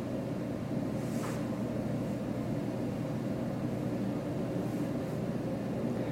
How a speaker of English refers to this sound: Hear the vent.